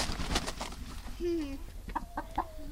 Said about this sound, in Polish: To można nawet pogłaskać taką kurę? Tak.